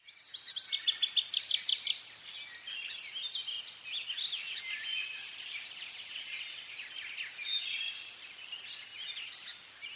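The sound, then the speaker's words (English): Several birds sing continuously from treetops and dense brush along a trail, with high, rapid chirps and trills overlapping. A louder, quick burst of notes comes in the first couple of seconds, and no one speaks. “Listen for birds singing from treetops and dense brush.”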